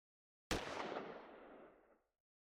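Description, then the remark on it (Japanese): A single sharp, dry gunshot cracks out of silence in the distance, then trails off in a fading noisy tail over about a second and a half. Nothing else is heard, and no one speaks. “静寂を切り裂くたった一発の乾いた銃声だった。”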